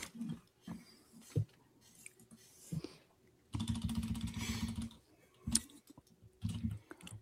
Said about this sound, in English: I'm typing them in.